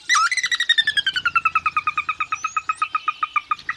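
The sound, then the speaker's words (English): A sora gives its whinny: a loud run of about two dozen rapid, clipped notes that starts high and slides gradually downward in pitch, steady in rhythm, with no talking. “Sora.”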